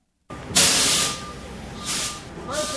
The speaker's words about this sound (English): The workers at the Saddleback Church food pantry can hardly believe their good fortune. A semi-truck is backing into their loading dock with four dozen pallets of breakfast cereals.